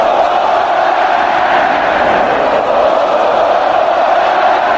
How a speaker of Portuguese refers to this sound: A torcida comemorou o mesmo antes do apito final do juiz. O Brasil já vencia por 2-0 quando os gritos de olé tomaram conta do Mineirão.